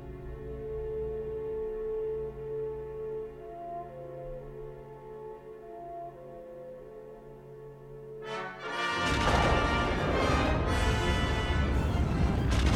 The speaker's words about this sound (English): Look, another explosion. Surely the Death Star can't endure many more. No, nothing could. Here comes the big one.